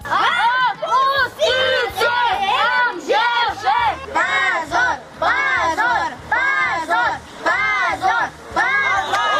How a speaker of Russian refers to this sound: После суда дети кричали полиции, чтобы силовики отпустили их отцов.